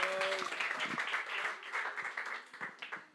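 An audience applauds a speaker after the talk, a dense patter of many hands clapping that holds for a few seconds and thins slightly toward the end. A brief tonal sound appears at the very start.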